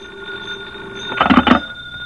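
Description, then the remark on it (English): An old-fashioned telephone bell rings once for an evening phone call, a short, rapid metallic trill, clear over a faint steady hum. No one speaks. “It was a phone call one evening asking me to come to a Board of Education meeting that initiated me into the workings of our particular Board of Education.”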